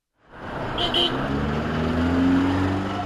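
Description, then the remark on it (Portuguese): Heavy rush-hour traffic in Westland, a busy commercial district of Nairobi, Kenya, with a total jam at a roundabout: a steady, dense roar of car engines, with low engine hum rising and a brief high squeal early on, continuous throughout. “É a hora de maior trânsito em Westland, um dos bairros comerciais mais agitados da capital keniana, Nairobi.”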